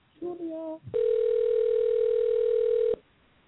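A phone line rings with one steady two-second ringback tone, clear and close, while the call waits to be answered. A brief murmur of sound comes just before it.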